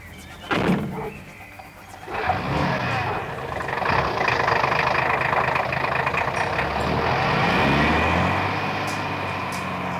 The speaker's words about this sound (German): Wenige Augenblicke später fuhr er mit dem Wagen von dem Gelände.